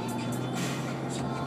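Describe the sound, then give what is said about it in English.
A tow truck engine idles steadily on the road at a scene with a police car and a broken-down car, a low continuous rumble with a constant hum, fairly loud, with no other sounds standing out. “got some action here on the road. Police car, some kind of tow truck, and they're looking at some car that just seems to be broken and not crashed.”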